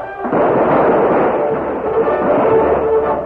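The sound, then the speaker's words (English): A dense, continuous barrage of gunfire roars loudly for a few seconds as uniformed riders charge in. The shots blur together into a rumbling, slightly muffled clatter, with no voices. “Devastating gunfire broke out.”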